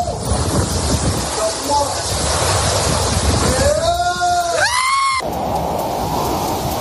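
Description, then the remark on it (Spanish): A dense, steady roar of Hurricane Melissa's wind and driving rain as it makes landfall in Jamaica, with sustained winds reaching 300 km/h, and a shrill whistling howl that rises and bends in pitch midway before the noise shifts abruptly. “Es el huracán Melissa, tocando tierra en Jamaica, convertido en un auténtico monstruo.”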